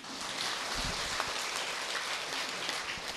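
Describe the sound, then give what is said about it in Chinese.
Steady audience applause at a Buddhist lecture hall in thanks to the hall's vice abbot, a dense crackle of many hands clapping at an even level for about three seconds, with no voices over it. “我说我当这个住持，第一个是要感谢他的，大家要鼓掌。”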